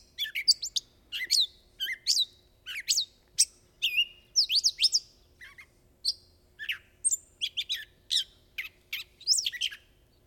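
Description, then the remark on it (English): A gray catbird sings its summer song, a long, rambling string of varied squeaky chirps, whistles and mewing notes in quick, irregular phrases, clear with no voices or other sounds. “We have a few bird songs and calls to play, and the first is the gray catbird, and here's let's play that song.”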